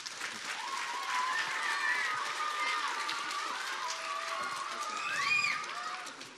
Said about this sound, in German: 6 Kinder aus der Schäfersee-Grundschule in Berlin. Mal einen Applaus vielleicht.